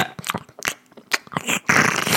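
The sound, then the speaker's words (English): A voice imitates a cat sucking on its own bare, hairless skin: a quick series of wet, smacking clicks and slurps, ending in a longer, louder hissing slurp. “Just sucking on her own skin.”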